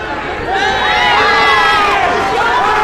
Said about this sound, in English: Okay, and the police are now outside. They're following the crowd, and the crowd is now all outside in the front yard on the Rue de la Gauchetière entrance.